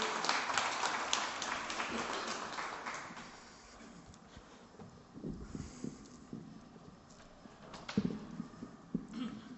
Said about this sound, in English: So give him a round of applause, and he's going to sing for us.